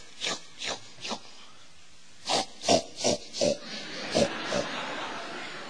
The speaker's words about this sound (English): Pigs. Pigs. Pigs.